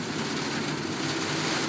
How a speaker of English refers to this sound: So we're in a taxi on the way to Bud and Rachel's. Listen to that rain.